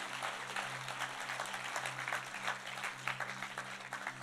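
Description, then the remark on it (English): An audience claps steadily for about four seconds, a dense patter of many hands at an even level, with a low droning hum running beneath it. “You want to clap, you want to give him praise.”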